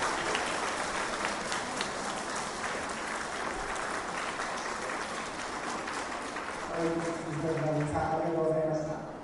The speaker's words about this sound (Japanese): まず大きな拍手をお願いいたします。